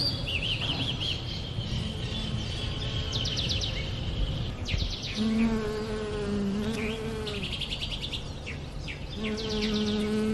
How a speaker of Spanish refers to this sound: Por eso las abejas están allí felices entre las flores amarillas. Observen cómo siguen polinizando.